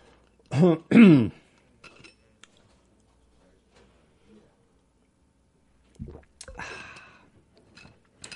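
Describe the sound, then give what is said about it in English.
A glass is handled and water taken, with a few faint clinks and soft knocks spread across a mostly quiet stretch, framed by brief vocal sounds at the start and a rustling burst near the end. “I think I need a little water here.”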